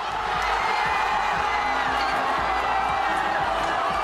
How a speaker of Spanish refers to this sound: Estos gritos de euforia no difieren mucho de los que se han escuchado durante toda la noche en miles de calles, de plazas del país.